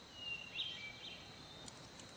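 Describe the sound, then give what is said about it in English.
Faint hermit thrush song: a few thin, flute-like whistled notes drifting over a quiet outdoor hiss, with no voices present. “You hear that song? It's a hermit thrush.”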